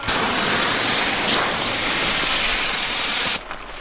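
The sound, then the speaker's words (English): A loud, continuous pressurized hiss as a bear pepper spray canister, its top popped off and its base supported by hand, is sprayed forward on a range for over three seconds, then cuts off abruptly, leaving quiet background. “we pop the top off with our hand supporting the base, and then out forward spray”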